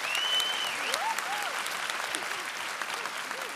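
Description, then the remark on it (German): Steady audience applause fills the whole stretch in a small studio, a dense wash of many clapping hands at even loudness, with a few faint whistles or cheers rising over it and no talking, given for a retired former managing director of the company 50Hertz. “Dafür an dieser Stelle ein extra Applaus.”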